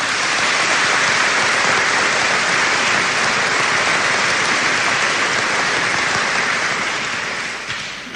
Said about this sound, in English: Please join me in giving these Fort Recovery Alumni Association scholarship recipients a round of applause.